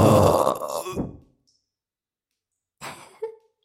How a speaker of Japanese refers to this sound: びっくりさせてごめんなさい。こうやってホーリーゲップで耳かす吹き飛ばせばお耳掃除もできるのよ。